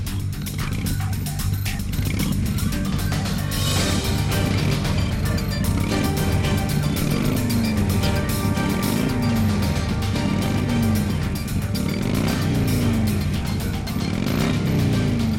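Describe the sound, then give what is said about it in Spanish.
A motorcycle engine roars loudly and steadily, its pitch surging and dipping in a series of repeated revs over a constant, heavy rumble. “El rugir de una moto, es lo que está sonando, y precisamente de este colectivo vamos a hablar.”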